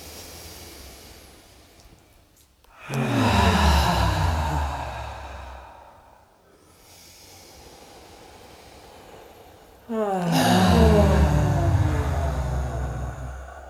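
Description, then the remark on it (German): Deep breaths in a guided breathing exercise, drawn into the belly and breathed out through the mouth, loud: two long, rushing exhales with a softer, airy inhale between them, and no talking. “Atmet aus durch den Mund.”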